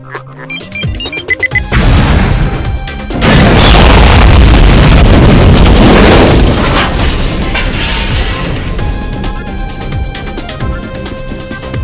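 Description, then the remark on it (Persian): Loud bomb explosions, set off with a remote control, erupt one after another as a whole city is blown up, building into a massive sustained roar of blasts and rumbling debris that fills the scene, with a few beeps and tones early on before the detonations hit. “در همین حین رئیس ربک ها در حالی که میخندید، با کنترلی که در دست داشت بمب های انفجاری رو برای نابودی جغله فعال کرد و تمام شهر رو منفجر کرد.”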